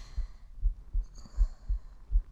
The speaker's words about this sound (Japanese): ちょっと恥ずかしくてドキドキ早くなってる。恥ずかしい。